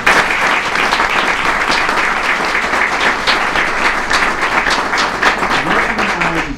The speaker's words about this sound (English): Second consecutive year. That deserves a round of applause.